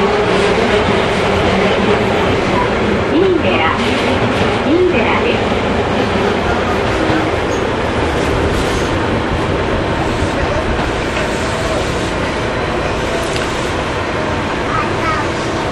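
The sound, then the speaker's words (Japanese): A train rumbles steadily along the tracks through a residential area, crossing a level crossing shortly before Miidera, a continuous loud mechanical roar with faint rhythmic clatter and occasional squeals, with a man talking over it. “そして今踏切を越えまして、まもなく三井寺でしょうか。”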